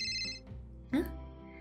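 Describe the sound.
A phone ringtone chimes with bright electronic tones for a moment, fading out before a brief louder burst, with faint voice sounds in the background.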